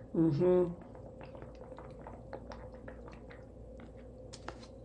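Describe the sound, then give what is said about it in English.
A short vocal hum at the start, then someone sips coconut water, with a run of small wet clicks and gulps over a quiet background. “So I'm going to just get a quick sip of water here.”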